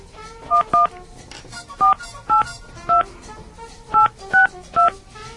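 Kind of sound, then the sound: signal or alarm, telephone keypad dialing tones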